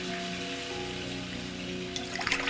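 Shower water runs in a steady, hissing rush for the whole stretch, with a faint low hum underneath and a few sharper splashes near the end.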